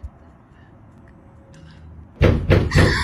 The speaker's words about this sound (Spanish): ¿Está en la puerta que estaba sonando?